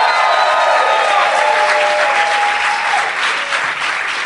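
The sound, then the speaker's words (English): A crowd at the Tom Lee Music Hall in Vancouver, BC, Canada, applauds and cheers loudly at a live Doug Loves Movies show during the Vancouver Comedy Festival, with dense, steady clapping and a few sustained whoops and high shouts riding over it throughout. “Everybody. Fired up crowd.”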